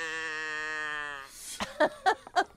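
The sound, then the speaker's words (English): A sound effect: a sustained, nasal bleating tone holds steady for over a second, goat-like in quality, followed by a few short, bursty vocal sounds that could be further bleats or voices. “That sounds like a goat to me.”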